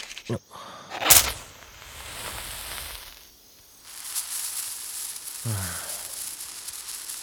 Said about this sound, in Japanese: なんだか地味だよな、線香花火って。 そういうな、これはこれで風情がある。私は結構好きだぞ。